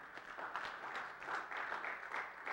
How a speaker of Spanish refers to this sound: ¿Le puede dar un fuerte aplauso al Señor?